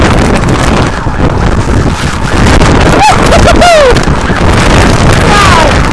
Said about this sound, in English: it is windy